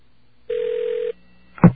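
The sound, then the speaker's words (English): A single steady ringback tone buzzes over a telephone line for about half a second during a call to a customer service line, then falls silent before a short clunk like a receiver being picked up. “Customer service is ringing.”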